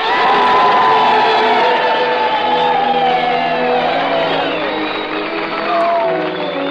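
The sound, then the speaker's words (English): A large audience erupts in loud, sustained cheering for a bandleader, the Dean of American Music, on the Radio Hall of Fame broadcast, with many shrill whistles rising and falling over dense clapping and shouts, continuous for several seconds. “And now, how about some well-deserved whistles, cheers, and applause for the Dean of American Music, ….”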